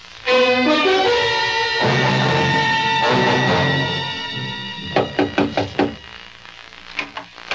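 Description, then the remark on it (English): Orchestral music plays, then a quick burst of about five firm knocks on the door of an aunt who does not answer, followed shortly by two more, distinct over the fading music. “My aunt doesn't answer the door.”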